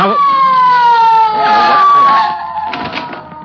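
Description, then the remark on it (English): A loud police car siren holds one long wailing tone that slowly slides downward in pitch as it winds down, with some rough background noise mixed in toward the end. “Somebody here called for a squad car?”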